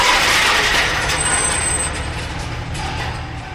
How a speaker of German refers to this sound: Zwar gelingt es ihm noch, das Fahrzeug zu bremsen, leider kann er jedoch nicht verhindern, dass sie an der Leitplanke entlangschlittern